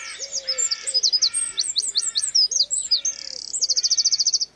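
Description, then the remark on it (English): A wren sings a loud, rapid stream of high, bright notes, ending in a fast buzzing trill. The song is clear, with no voices. “And soon they were no longer just birds, but became wren.”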